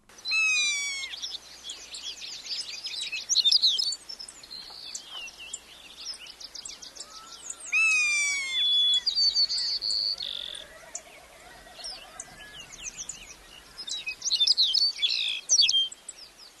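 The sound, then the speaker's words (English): A busy outdoor chorus of tundra birds, including shorebirds and waterfowl, calling over one another, with rapid trills, rising whistles and chattering notes repeating throughout, and a low croaking call partway through. “There on the tundra are all kinds of birds, shorebirds, waterfowl, owls, raptors, gulls, terns, and songbirds.”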